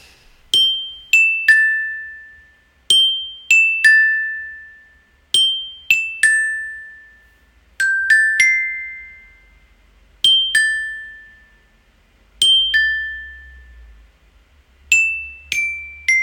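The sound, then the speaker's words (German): A glockenspiel plays a short catchy pop melody alone, bright struck metal notes ringing and decaying, the same few-note phrase repeated several times with brief pauses between. “Die nächsten beiden Schnipsel sind auch auf dem Glockenspiel eingespielt”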